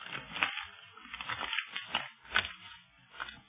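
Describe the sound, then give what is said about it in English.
A paper, found hidden in the removable back of a brush, being unfolded, with dry crinkling and crackling in a string of uneven bursts over a few seconds and no voices. “Yes, and there is a paper in it, all right.”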